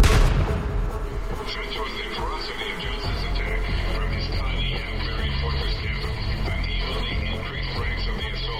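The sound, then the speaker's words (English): A dense, continuous barrage of rifle and shotgun gunfire as Johnson fires from a fortified cabin at a posse, with sharp overlapping shots on a heavy low rumble that holds at a steady, loud level throughout. “Little did they know, Johnson had fortified the cabin, firing his rifle and shotgun at the posse.”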